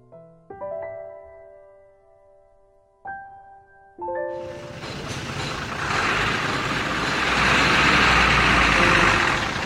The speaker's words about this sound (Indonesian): Debu jalanan yang pekat menyesakkan napas. Sebuah truk pengangkut tanah timbun mengumpulkan debu itu sehingga menggelapkan pandangan.